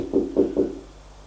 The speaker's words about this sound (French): Il frappa à la porte.